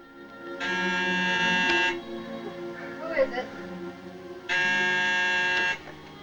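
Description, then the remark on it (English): A door buzzer at a door with a screen, at the top of a dingy flight of stairs, sounds twice, each a harsh, steady electric buzz lasting just over a second, with a few seconds' gap between them where a faint voice murmurs. “Don reaches a door with a screen and presses the buzzer.”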